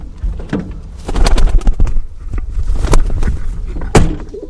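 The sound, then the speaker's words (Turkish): Two pigeons coo in low, throaty murmurs as they are carried down street stairs and put into a car, broken by a few sharp knocks and thumps, with a louder bang near the end. “elinde iki tane güvercin sokak merdivenlerinden indi.”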